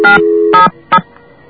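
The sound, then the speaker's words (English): Three short electronic keypad tones from a telephone being dialed to call an operator, the first two joined by a sustained steady tone, the last a brief beep, followed by a faint hum; no one speaks. “I might hit one too many digits there.”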